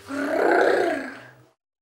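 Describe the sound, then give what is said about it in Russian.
A person imitates a wolf's growl: one sustained, rough, throaty snarl lasting over a second, fairly loud, then it cuts off into silence. “Волк побежал к дому и зарычал.”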